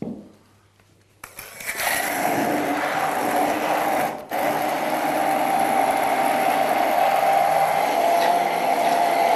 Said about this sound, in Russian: Так, берем блендер. Сейчас немножко пожужжим.